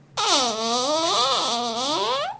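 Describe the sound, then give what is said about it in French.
A creaking bedroom door swings open in the morning with one long, loud groan lasting a couple of seconds, its squeaky pitch wavering and dipping midway before rising again. No voices accompany it. “La porte fait un bruit digne d'une maison hantée.”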